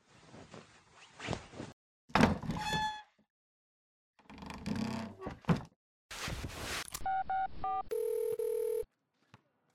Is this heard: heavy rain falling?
no